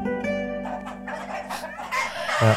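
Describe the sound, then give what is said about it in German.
A short segment-divider jingle with sustained tones, overlaid with chicken and rooster sounds, clucking bursts and a crowing call, loud, with no talking. “Den gibt es auch mit Huhn.”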